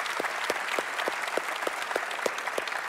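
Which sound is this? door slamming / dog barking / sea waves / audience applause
audience applause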